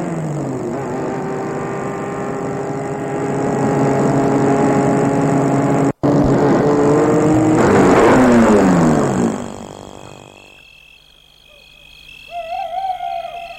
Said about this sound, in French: Il fait déjà nuit, la rue est déserte, il y a peu d'habitations. Il va arrêter la voiture devant la maison.